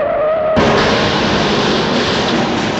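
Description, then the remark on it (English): A loud tyre skid squeals briefly, then cuts into a sudden violent crash between a motorbike and a car that leaves a dense, sustained roar of scraping and crunching noise. No voices are heard. “Just remember, whenever a motorbike meets car, car wins.”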